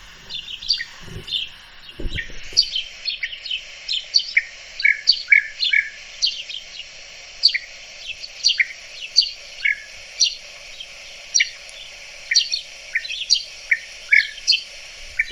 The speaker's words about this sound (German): Ja, ich glaube, wir haben es alle gehört. Ja, das ist ein sehr, genau, das ist ein sehr ruffreudiger Vogel und der sehr doll Kontakt hält, tritt meistens in großen Gruppen auf.